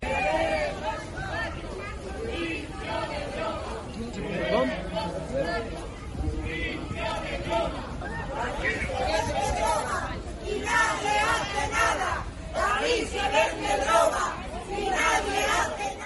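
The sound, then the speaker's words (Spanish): A crowd of neighbors who were waiting for Pedro Sánchez during his walk through their neighborhood boos and shouts in protest at him, a continuous loud din of overlapping angry voices with rising and falling jeers throughout. “Ni 5 minutos ha aguantado Pedro Sánchez entre abucheos y protestas de un grupo de vecinos que le estaban esperando para decirle a la cara cómo está el barrio.”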